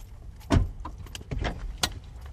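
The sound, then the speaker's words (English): A car door thuds shut, followed by a short stretch of rustling, shifting and soft clunks as two men in their mid-20s settle into the backseat of a car parked on a quiet street outside a large windowless warehouse in the Riverside area. No one speaks. “Two men in their mid-20s settle into the backseat of a car parked on a quiet street outside a large windowless warehouse.”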